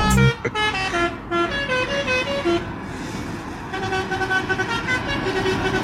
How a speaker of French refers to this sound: Voilà, vous me voyez en train de faire des tours autour du rond-point, là, avec ma bagnole et mon klaxon.